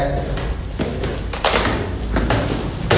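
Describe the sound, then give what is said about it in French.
A heavy fire door, marked PCF 463 and to be kept closed, is pushed open, with a series of metallic clunks and thuds from the latch and hinges over a few seconds, and faint voices in the background. “Porte coup de feu, à maintenir fermée. Ouvrez la porte.”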